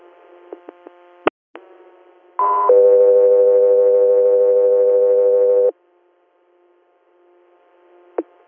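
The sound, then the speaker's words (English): Radio dispatch alert tones for an air medical crew, preceding a Guthrie Air hospital transfer call from Regional Hospital of Scranton, Pennsylvania, to New York Presbyterian: a short high tone jumps into a long, steady lower tone lasting about three seconds, loud and buzzy, framed by sharp radio clicks and a faint static hiss. “Southwest 3 Air, standby for tones.”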